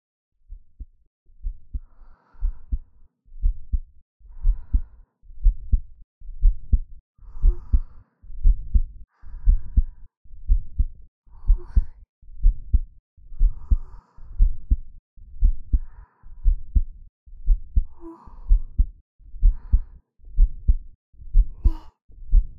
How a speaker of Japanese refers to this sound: 私の心臓の音、聞こえる？ゆっくり、トクンと。 って鳴ってる音、この音を聞いてるとなんだか落ち着くでしょ。